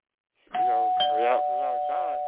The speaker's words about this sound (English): All right, look, we got a phone call. So we got to go to the phone line and see who we got.